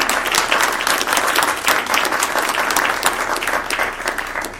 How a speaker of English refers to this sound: if you could stand up, if the face is familiar, but please take the applause anyway. Thank you.